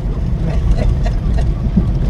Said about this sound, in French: On entend bien le moteur typique de la deux chevaux aussi.